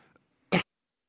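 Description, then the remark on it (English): A single short, harsh cough bursts out loudly, lasting a fraction of a second, with faint low rustling just before and silence afterward. “I'm going to cough, just excuse me.”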